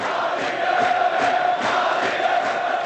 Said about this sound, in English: Most recently, the Shab soccer stadium was used to house refugees from the fighting in the vast Shiite slum of Sadr City in Baghdad. Today, it was filled with cheering fans.